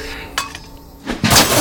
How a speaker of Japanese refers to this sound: 車のガラスが割られました。